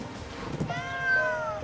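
A single drawn-out cat meow rises and lingers after a short quiet moment, moderately loud with no one speaking, from a cat on a waking man's chest at dawn.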